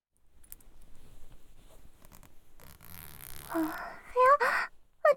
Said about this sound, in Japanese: じゃあ、おズボンのチャック失礼して。